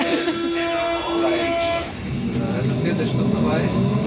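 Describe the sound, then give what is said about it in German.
Busy, full S-Bahn commuter train and city ambience, with loudspeaker announcements and people talking on their phones: a steady rumble of traffic and rail noise under indistinct crowd chatter, with a sustained tonal, horn-like hum in the first two seconds. “Volle S-Bahn, Lautsprecher, Durchsagen, Leute, die in ihre Handys quatschen und natürlich auch das ganze Elend der Stadt.”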